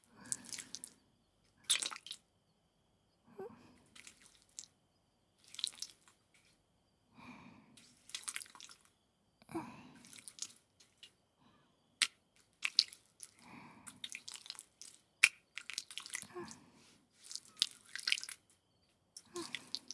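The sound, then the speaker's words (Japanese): Lotion at room or body temperature being rubbed into skin during a massage, wet, squishy smearing sounds repeating in irregular bursts, soft slick rubbing and faint sticky smacks with short pauses between them, quiet and without any talking. “塗り込んでいきますね。”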